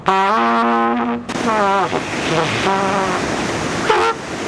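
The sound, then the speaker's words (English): Loud, brassy trumpet blasts: a long steady note, then a wavering one, followed by a few shorter honking tones over a constant rushing noise; a technician from Advanced Pump and Well Solutions in Richland Center plays the trumpet to prime a water pump. “It's his trumpet. Watch this.”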